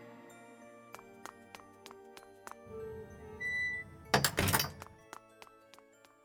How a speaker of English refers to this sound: I'll have to sneak out the side door.